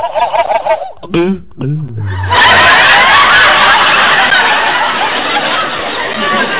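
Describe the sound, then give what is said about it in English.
A hen turkey gobbles in quick, warbling bursts that slide downward for a couple of seconds, then a loud wash of crowd noise swells up and fills the rest. “Mac is definitely smitten by that hen turkey.”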